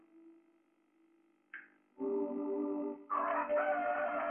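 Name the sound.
rooster crowing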